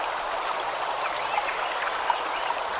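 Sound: creek water flowing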